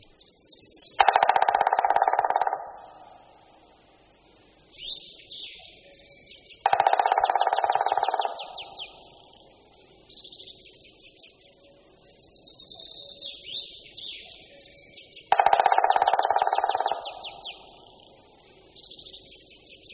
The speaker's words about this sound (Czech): Poslechněme si toto bubnování, které je poměrně dlouhé, silné, ale pomalejší než u strakapoudů. Ke konci naší nahrávky se samec ozve ještě hlasitým voláním kli kli kli kli, které vydává v době toku.